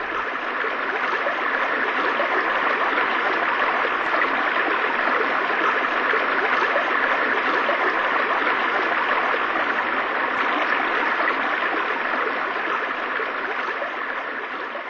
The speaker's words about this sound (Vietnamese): Ở một nơi nào đó xa xa dưới sâu kia là những tia sáng long lánh của bụi nước. Tôi gào lên, nhưng chỉ có tiếng ầm ảo của thác nước tựa như giọng người vọng đến tai tôi.